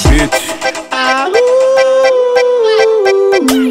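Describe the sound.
A single loud, drawn-out dog-like howl swoops upward, holds a steady wavering pitch for a few seconds, then drops away at the end, all over a thumping, regular music beat.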